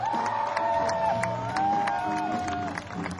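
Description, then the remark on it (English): A live audience cheers and applauds loudly as a renowned musician is introduced, with whoops and shouts riding over a dense wash of clapping that holds steady throughout. “Ladies and gentlemen, let's get ready to scream and clap. Put your hands together for the one and the only world-renowned …”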